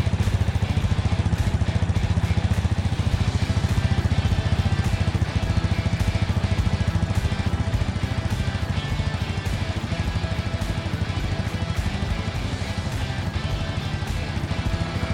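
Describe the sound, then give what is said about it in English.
A woman revs a motorcycle engine, which runs for the whole stretch, a loud, steady rumbling idle with a rapid throbbing pulse and no voices over it. “She revs the engine, listening closely.”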